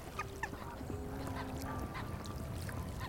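Geese honk repeatedly at the Hinterbrühler See lake near Munich, their calls overlapping in a noisy, outdoor scene with steady background ambience and a few brief, higher-pitched cries near the start; a goose swims toward the shore to escape an angry swan.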